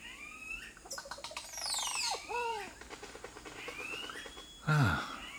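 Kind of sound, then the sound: bird, bird song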